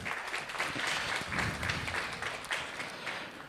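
An audience applauds steadily, a dense patter of many hands clapping at an even, moderate level that holds for a few seconds without voices.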